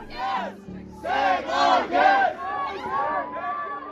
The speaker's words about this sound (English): After playing their final match on the Gold Coast, supporters of the women swarmed outside the stadium, with some even attempting to block the bus from leaving.